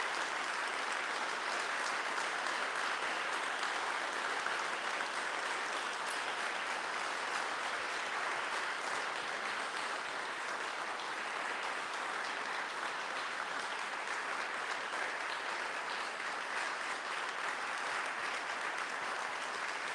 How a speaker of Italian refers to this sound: Però io le rifarei un altro grande applauso perché lei ha avuto la forza.